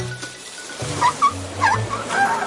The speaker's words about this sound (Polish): Słonie zaczęły wydawać dziwne dźwięki. Słyszycie?